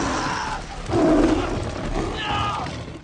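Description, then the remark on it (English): A tiger in a film lets out a loud roar about a second in, a harsh, throaty growl over a noisy background, followed by lower rumbling snarls. “And in the movie, that tiger is stunningly real.”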